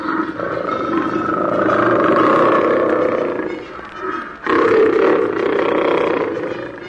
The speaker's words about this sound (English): Leopard.